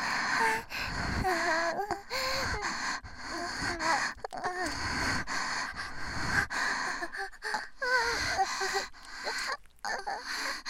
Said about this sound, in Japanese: こうやって吐息を吹きかけてると気持ちいいでしょ。